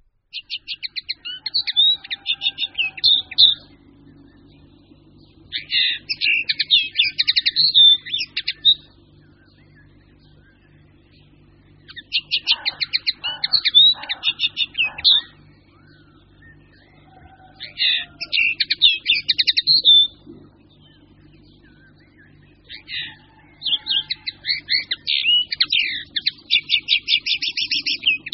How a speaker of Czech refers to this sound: Tento silný a zvučný zpěv patří k konopce obecné. Je to pěnkalovitý pták s převažujícím hnědým zbarvením. Sameček má šedou hlavu s karmínově červeným čelem, rovněž prsa má karmínově zbarvená. Samička je drobnější, štíhlejší a postrádá červenou barvu.